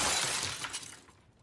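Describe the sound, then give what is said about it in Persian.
Glass shatters in a sudden loud crash as a person crashes into it, bright tinkling fragments scattering and fading over about a second with no voices present. “بعد جوری رفتی تو شیشه؟”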